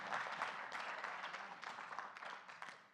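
An audience claps together in a steady, dense patter of many hands, holding level for a few seconds before tapering off at the end. No one speaks.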